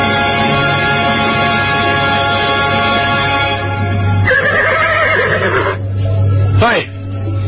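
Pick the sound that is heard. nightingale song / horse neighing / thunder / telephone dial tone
horse neighing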